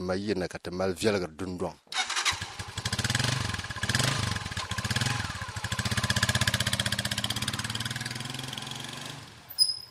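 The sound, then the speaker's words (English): After a brief voice at the start, a motorbike engine kicks in and runs steadily, its rapid putter loud and continuous for several seconds before cutting off abruptly at the end. A man in the village of Dungu is tying a container to the motorbike before heading out in search of water. “is tying container to his motorbike before he heads out in search of water.”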